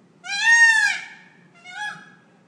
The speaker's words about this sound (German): Wir kommen nicht los von den Vögeln, was auch immer das jetzt für Vögel sind, aber Lissabon bei Nacht klingt auch so.